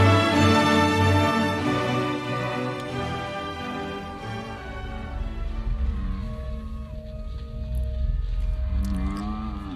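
Long, drawn-out howls of wolves in the distance under a full moon with low clouds. The howls rise and fall through the whole stretch, layered and overlapping, over a rumbling low background, with a fresh upward wail near the end.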